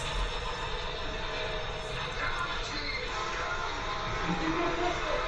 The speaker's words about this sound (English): Onto the bridge they go, and predictably, the inevitable train's right on time.